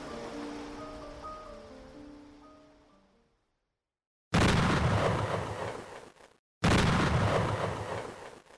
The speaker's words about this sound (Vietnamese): Mấy đêm gần đây, làng Diễn bị đánh thức bởi những tiếng động lạ. Nghe như tiếng mìn nổ, lão nghĩ có thể là tiếng mìn nơi công trường khai thác đá phía bên kia làng Voi do những cơn gió Tây ngược mùa đem lại.